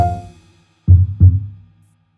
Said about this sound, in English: What do you do? I'm a doctor. I listen to your heartbeat.